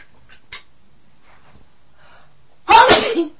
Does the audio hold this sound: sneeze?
yes